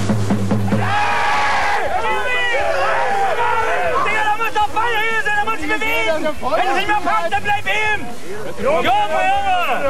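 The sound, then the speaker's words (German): Spectators at a hard-fought amateur district-league (Kreisklasse) football match involving Fortuna Oetsch shout and call out together, many overlapping raised voices rising and falling in loud bursts. The crowd noise stays steady and dense for the whole stretch, with a low rumble underneath. “Insgesamt war es ein sehr, sehr kampfbetontes Spiel, das merkte man auch an den Zuschauerreaktionen.”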